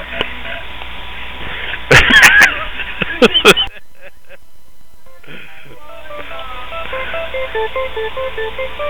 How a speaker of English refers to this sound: We hear music, but we hear echo. Echo.